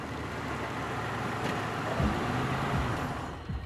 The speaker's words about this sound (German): Tobias R. fährt mit seinem Auto gegen 21 Uhr auf den Heumarkt in Hanau. Dort stellt er seinen Wagen ab.